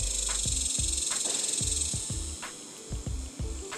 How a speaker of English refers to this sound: I believe I have the cicadas here.